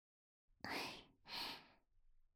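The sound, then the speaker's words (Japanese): A patient yawns: two long, breathy swells of air, a drawn-in breath followed by an airy exhale, fairly loud with no talking over them. “あくび大丈夫ですかね。”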